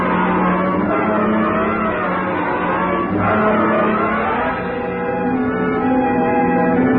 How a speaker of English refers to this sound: How we held the road at over 100 miles an hour, I'll never know. Thanks to the siren on the stolen police car, the road ahead was kept clear.